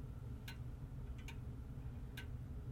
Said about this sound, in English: I have a grandmother clock that I received a while ago, and it's a nice clock, and I'm going to get as close as I can. I don't know if you can actually hear the pendulum or not. And in just a moment, it will go off.